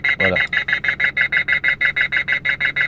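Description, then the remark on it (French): A voice says a single word, then an electronic bird scarer box plays the older alarm-like call: loud, steady, rapid beeping pulses, roughly five per second, continuous. “C'est même pas un cri, c'est une alarme.”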